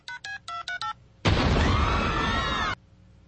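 Five quick electronic cell phone keypad tones beep in a steady rhythm, then after a brief pause a loud, sustained explosion roars for over a second before cutting off abruptly, from a clip in which Peter Griffin sets off bombs by dialing a cell phone.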